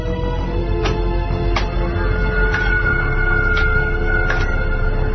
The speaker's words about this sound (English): Whales, sir. They're a long way off the usual path, but that's not uncommon since that, what are they calling it? Orbital wobble?